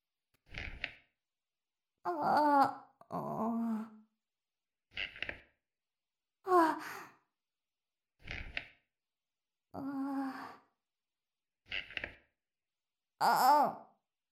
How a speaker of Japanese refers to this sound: 第三者が耳にしたら変な想像間違いなし。怪しい息遣いが続きます。